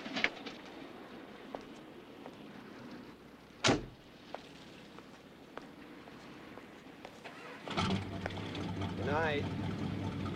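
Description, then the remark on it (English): A car door thuds shut, then after a pause an engine starts up with a low, steady hum as a man drives the car away from a woman's house, with birds cooing faintly in the background. “She waves from her door and he drives off.”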